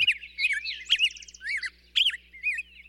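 Birds sing in a busy stream of high, warbling, rapidly modulated phrases, some trilled and some whistled, with short gaps between bursts and no voices.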